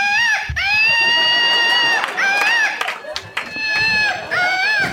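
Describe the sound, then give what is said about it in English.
A patriotic Woot toy monkey with an American flag on it lets out a loud, shrill electronic scream as its rip cord is pulled, a sustained wavering screech with brief breaks and pitch wobbles, continuing for several seconds. “I'm gonna pull the rip cord that makes them scream.”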